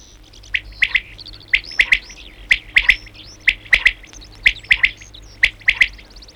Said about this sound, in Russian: кто на вечерней зорьке поет колыбельную перепел. Спать пора, спать пора, спать пора.